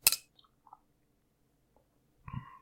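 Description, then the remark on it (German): Glasses of pale lager beer clink together once in a toast, sharp, with a brief faint ring trailing off; after a quiet pause comes a second, softer knock near the end. No one speaks. “Und ich sag mal, Prost”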